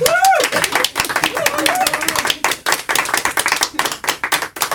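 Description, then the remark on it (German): Audience applause at the Radio Fips reading stage (Lesebühne), with dense, steady clapping from many hands, fairly loud throughout, with brief voices and a whoop rising over it at the start. “Und da wir Publikum haben, darf ich doch noch mal um ein bisschen Applaus bitten.”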